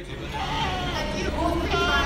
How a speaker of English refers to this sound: The incessant bleating of the goats in the goat barn.